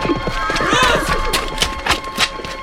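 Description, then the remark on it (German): Hooves of a stolen horse clip-clop in a steady, evenly spaced rhythm, moving off, with a brief whinny-like cry near the start. “Der Indianer hat das Pferd gestohlen!”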